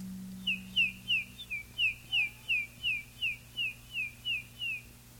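A person whistles a steady run of about a dozen high, sliding peeps in even rhythm, imitating baby chicks (biddies) cheeping, over a faint low hum with no talking.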